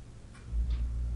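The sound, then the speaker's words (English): A clock ticks faintly in a bedroom, two soft clicks about a third of a second apart, over a low steady rumble that swells partway through as the house air system switches on. “There's a clock. Let's see if the mics will pick it up.”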